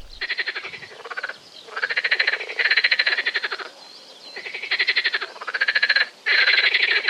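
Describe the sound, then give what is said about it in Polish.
A marsh frog croaks in loud bursts of rapid pulsed rattling, each lasting about a second with short gaps between, giving a chuckling, laugh-like rhythm. No one speaks. “Ciekawostką jest to, że żaba jeziorkowa może mieszać się z żabą śmieszką, troszkę większą i o rechocie, który rzeczywiście przypomina nieco taki chichot szyderczy.”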